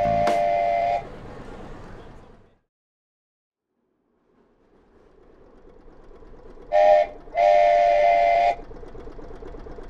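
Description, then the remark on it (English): A small tourist train rumbles through Central Park with a steady low chugging while its whistle blows—one short blast at the start, then a brief toot and a longer held blast near the end. “There's a small tourist train moving through Central Park of this unusual world inside Earthland.”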